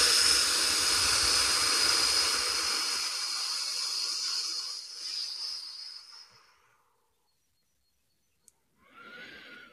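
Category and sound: human body sound, forceful exhaling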